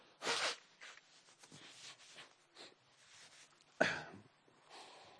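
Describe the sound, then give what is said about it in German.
Someone blows their nose in two strong, breathy honks, one near the start and another near the end, with softer sniffs and rustling in between, no talking. “muss mir kurz die Nase putzen.”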